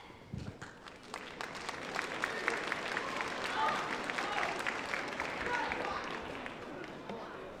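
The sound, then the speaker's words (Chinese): An audience applauds continuously at a Chinese crosstalk (xiangsheng) comedy show, many hands clapping in a dense, crackling wash that holds steady and swells slightly in the middle, with a faint murmur of crowd noise underneath. “谢谢您的掌声鼓励，节目一场接着一场。”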